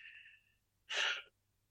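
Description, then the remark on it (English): Heavy, stressed breathing from a person feeling stressed out and overwhelmed: a thin, strained intake of breath followed by one loud, forceful exhale, with no talking. “Why are you breathing so heavy right now?”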